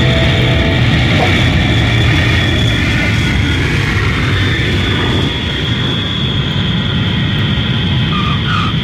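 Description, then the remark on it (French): Steady, loud roar of an airplane descending toward Tel Aviv on 1 January, heard as constant engine and cabin rumble with a faint high whine riding on top, unbroken for the whole stretch and with no voices. “Nous sommes le 1er janvier et mon avion descend sur Tel Aviv.”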